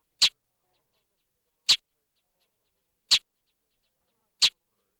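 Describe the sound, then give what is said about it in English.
A northern mockingbird gives four harsh, short chack call notes, evenly spaced about a second and a half apart, loud against silence. “Also listen to the mockingbird's call note.”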